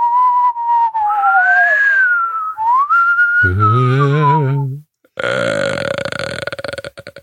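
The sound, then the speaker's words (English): A voice imitates a dog with a Doppler-like sweep: whistly tones glide up and down in pitch, then a low gravelly burp-like growl, then a harsh buzzing stretch that pulses and fades. “I'm trying to do a dog, but also Doppler effect, Doppler dog.”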